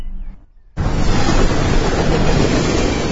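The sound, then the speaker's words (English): After a brief hush, a train on a busy railway line bursts past with a sudden, loud, steady rushing roar that fills the rest of the moment without fading, heard from the verge beside the line. “And I'm on the verge next to a busy railway line, filming and viewing trains through my binoculars.”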